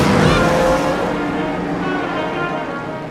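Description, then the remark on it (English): Loud, sustained roar of racing car engines on a track as racing resumes under the green flag, a dense mechanical drone with shifting pitch that stays powerful before easing slightly toward the end. “The green flag is out, and we're back to racing.”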